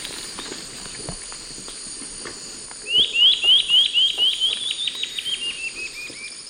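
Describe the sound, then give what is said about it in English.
A bird gives a quick run of about a dozen bright chirps that slow and fade toward the end, after a few seconds of quiet rustling and soft fluttering. “Let me see the bird.”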